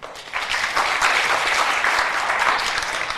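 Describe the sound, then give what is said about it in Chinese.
A crowd at a McDonald's scholarship college-admissions talk applauds to welcome a scholarship recipient, many hands clapping in a dense, continuous patter that swells quickly after a brief start and holds at a fairly loud level for about three seconds. “首先呢，让我们以热烈掌声欢迎他。”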